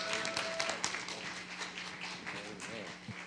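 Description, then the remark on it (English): An audience at a morning church service applauds a guest pastor as he comes up to preach, with steady, dense clapping that fills the whole stretch without a break, while scattered voices and cheers blend in underneath at a moderate level. “So if you would give him a round of applause as he comes to give us the words this morning.”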